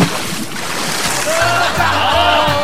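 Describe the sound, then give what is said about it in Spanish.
A big splash as a person jumps into a swimming pool in Placilla, Valparaíso, on an unbearably hot afternoon, followed by continuous churning and sloshing as the water keeps moving around them. “Aquí voy, guatón, aquí voy. Uno. Dos. Y... ¡allá voy!”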